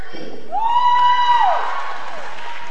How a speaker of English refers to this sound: Students cheer from the bleachers as some of them are called out for honorable mentions and best of shows. There are over a dozen categories.